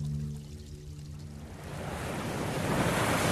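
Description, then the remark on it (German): Ocean waves wash and swell around an old dhow sailing in a mild north wind on a sunny day, with a steady rush of wind, starting with a low rumbling hum and building into a broad, loud surge of surf noise by the end. “Strahlender Sonnenschein, ein milder Nordwind in den Segeln, die Planken der alten Dau knarren in den Wellen”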